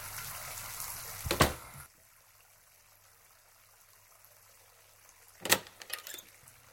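Water gushes from a tap with a steady hiss, then cuts off into near silence. A couple of short, sharper splashes or knocks follow a few seconds later.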